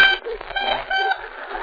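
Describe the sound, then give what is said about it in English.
A silvery tone horn sounds on its own, a bright, sustained brassy tone with rich overtones and a slightly wavering pitch, lasting under two seconds. “In case you have any trouble waking up those cars of yours at 2:30 every morning, here's a silvery tone horn that should have them on their feet in no time.”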